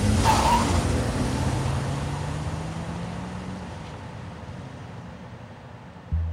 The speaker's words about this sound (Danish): Bilen, hvorfra der blev skudt, forsvinder i høj fart fra gerningsstedet.